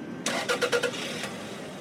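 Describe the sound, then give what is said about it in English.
A car engine starts up: a few rapid starter cranks sputter, then it catches and settles into a steady running rumble, with no one speaking. “Most of us who drive probably don't give much thought to turning on our car's ignition.”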